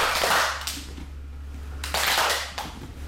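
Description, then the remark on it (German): Two sharp rounds of hand clapping at the start of a sports training session, each a loud burst of slightly ragged claps from several people, about a second and a half apart, over a steady low hum. “und dann klatschen wir noch in die Hände zweimal.”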